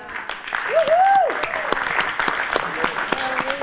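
An audience claps steadily throughout, a dense patter of many hands, with a rising vocal whoop from the crowd early on and softer cheering voices toward the end.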